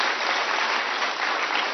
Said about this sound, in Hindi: आओ मिलकर जोर से बजाएं तालियां और दे दादी को धन्यवाद. दादी जानकी को धन्यवाद.